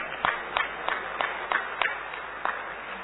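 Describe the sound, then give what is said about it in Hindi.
Audience clapping in a steady, rhythmic beat, about eight sharp claps over three seconds, with a continuous crowd murmur underneath. “और एक सर्वे कहता है कि आप जितना जोरदार ताली बजाते हैं उतने आप स्वस्थ रहते हैं।”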